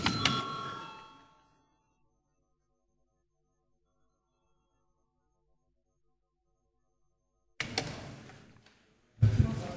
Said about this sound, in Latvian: Lūdzu zvanu.